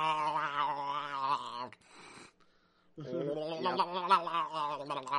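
A cat meows in two long, drawn-out yowls with a wavering pitch, fairly loud, separated by a brief pause with a little faint rustling.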